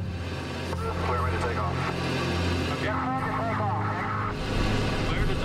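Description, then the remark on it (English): The engines of the Voyager aircraft start up before its first fully fuel-loaded takeoff and settle into a loud, steady droning roar with a deep rumbling hum, while muffled voices sound faintly underneath. “So I hammered the canopy into place, I locked it down, and I started the engines.”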